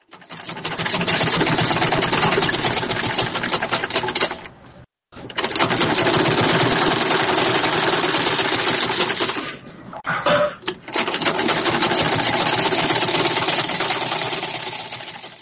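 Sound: sewing machine running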